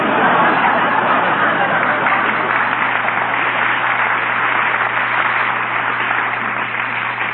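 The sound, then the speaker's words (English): A restless, impatient crowd murmurs and chatters continuously, a dense wash of overlapping voices with no single words standing out, steady and fairly loud throughout. “Look, pal, the crowd's getting a little impatient here.”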